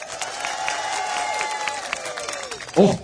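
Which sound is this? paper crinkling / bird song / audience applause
audience applause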